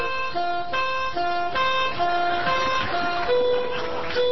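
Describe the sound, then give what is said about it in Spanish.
A police patrol car goes by, sounding a loud electronic two-tone wail that steps up and down between pitches in short repeated bursts over steady background noise. “Pero es un patrullero, me parece.”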